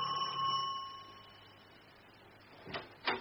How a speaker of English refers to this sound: Panel bell.